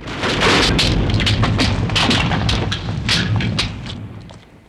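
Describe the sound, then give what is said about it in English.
A ceiling caves in amid a volcanic eruption: a heavy, continuous rumble with a series of sharp cracking crashes and falling-debris thuds, loud throughout before tapering off at the end. “A shutter from the volcano cracks the writing on the wall. Part of the ceiling caves in.”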